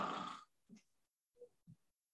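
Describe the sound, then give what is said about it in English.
A voice mimics snoring, imitating someone dozing off in bed during a bedtime prayer: one loud, rough, rasping snore, followed by three short, softer grunting puffs spaced apart, then quiet. “Now, I'm sure the Lord can interpret snoring, but you're not praying.”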